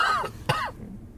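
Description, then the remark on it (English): A person lets out two short, throaty coughs, the second one sharper, followed by a brief quiet tail with no talking. “Coughing.”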